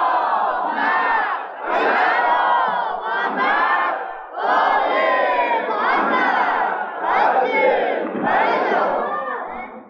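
A large crowd chants a Basiji salawat together in loud unison, voices rising and falling in several sustained, rhythmic phrases with brief dips between them.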